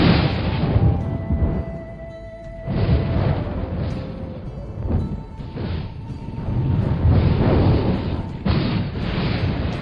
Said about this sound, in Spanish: Becororoti golpeó el aire con su bastón y resonó un terrible trueno.